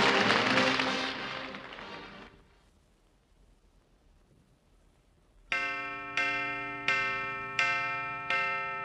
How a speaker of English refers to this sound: Great heavens, there's the chime. Already it's dinner time.